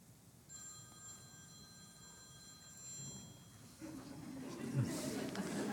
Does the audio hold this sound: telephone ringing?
yes